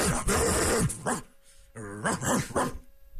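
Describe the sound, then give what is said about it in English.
A person's voice mimics a dog, letting out a loud burst of rough barks and yelps, a brief pause, then a second run of barking. “Because I'm a dog.”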